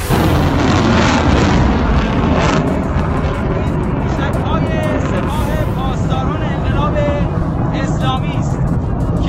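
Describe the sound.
A missile launch roars loudly, a dense rumbling blast with heavy low end that holds steady for the whole stretch, with faint voices buried beneath it. The missile is fired from Kermanshah province toward militant commanders in Deir ez-Zor province, Syria.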